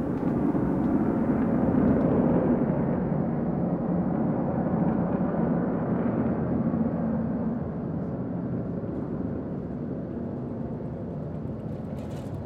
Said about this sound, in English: Because they're very quiet, obviously, and the plane was like super loud.